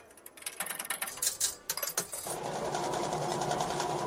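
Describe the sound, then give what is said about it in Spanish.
Coins clink and rattle into a coin-operated word machine on the summer terrace of Onda Madrid Todo Música for a couple of seconds, then a steady mechanical whirring starts up and runs continuously, fairly loud and even in tone. “Bienvenido, bienvenida a la máquina de palabras de nuestra terraza de verano. Por favor, inserte monedas y pulse Enter.”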